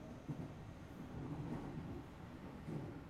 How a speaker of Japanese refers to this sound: 電車の中は冷房効いてるからちょっとはマシだけど